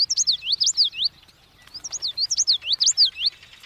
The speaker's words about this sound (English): The common yellow throat.